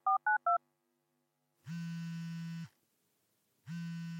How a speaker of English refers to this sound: When you dial up your buddy, a signal is being sent from the transmitter in your phone to a cell phone mast, and from here it travels to the receiver on your friend's phone, facilitating communication.